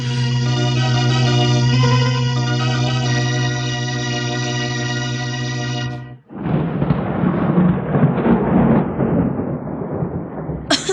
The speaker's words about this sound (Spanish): Oh, la tormenta se ha desencadenado, honorable sabio.